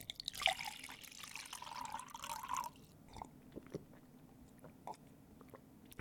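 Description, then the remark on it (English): Water pours steadily into a cup for a few seconds, then stops, followed by quiet sips and gulps as someone drinks the water. Nobody speaks. “I'll pour some of the water into this cup here, and I'll drink it myself.”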